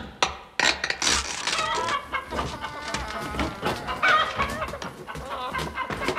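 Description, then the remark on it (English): Several people imitate chickens, clucking and squawking in a busy, loud, overlapping chorus that carries on without pause for several seconds. “Immediately on arrival at the Oasis, we began to open the crates, having first disguised ourselves as chickens.”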